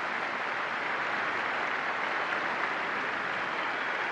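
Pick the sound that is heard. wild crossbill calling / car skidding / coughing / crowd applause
crowd applause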